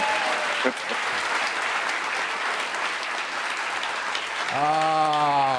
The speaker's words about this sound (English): Now you can applaud. It's a little more.